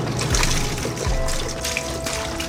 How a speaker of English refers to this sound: When I came here 4 years ago, I had no idea that they were pouring down as much milk down the drain as they have been. In fact, it was repulsive and sickening the first couple weeks here. It was hundreds of gallons.